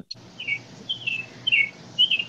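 A bird on a patio chirps in four bright, repeated calls spaced about half a second apart, each a short high trill standing out loudly over a low background hum.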